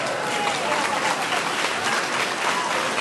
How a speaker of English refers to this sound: Don't clap, self-righteous motherfuckers. I'm not happy. I would if I could.